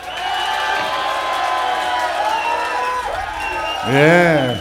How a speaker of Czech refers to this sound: Máme tu krátkou chvilku na potlesk.